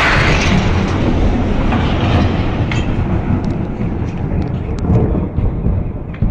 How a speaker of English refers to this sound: Countless videos show a fireball streaking across the dawn sky. The shockwave breaks thousands of windows and injures 1,500 people.